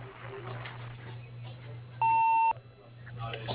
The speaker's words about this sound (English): Sorry you missed your call, but if you leave a message after the tone, we will get back to you.